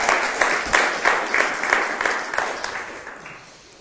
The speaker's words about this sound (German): Wir geben einen Applaus und heißen Angela herzlich willkommen.